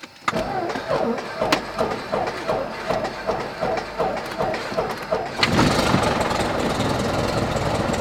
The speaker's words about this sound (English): So you always yell clear and look around the airplane, make sure no one's around. Or if people are outside, they know you're starting it.